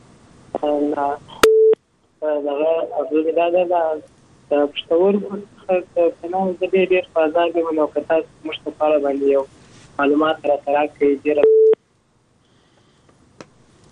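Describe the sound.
A brief, steady telephone tone beeps near the start and again near the end, framing a long stretch of continuous talking in between.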